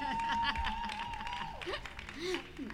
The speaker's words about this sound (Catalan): Vamos a ello. Aplaudiment. Venga.